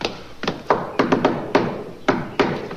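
Knocking on a door in the familiar shave-and-a-haircut rhythm: a quick run of hollow raps, a pause, then two final knocks, with no talking.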